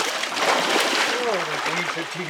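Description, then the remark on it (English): Continuous rushing, sloshing, freezing-cold creek water in California as a water investigator wades up to his waist and splashes through it doing forensic hydrology, with a man's voice faintly talking underneath toward the end. “up to his waist in freezing cold water, doing what he dubs forensic hydrology, investigating Durkee's concerns.”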